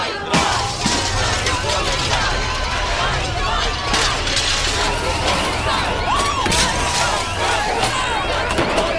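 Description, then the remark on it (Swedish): Glass shatters repeatedly amid a loud, chaotic crowd, with sharp cracks and smashing from cobblestones being thrown, over constant shouting and running noise throughout. “Så får vi se hur många stenar som blir kastade.”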